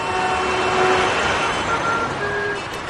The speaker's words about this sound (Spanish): Incluso algunos echaban, o echábamos, quién nos lo iba a decir, de menos el tráfico, esa manera tan peculiar de darnos los buenos días y hasta de perder el tiempo en pleno atasco.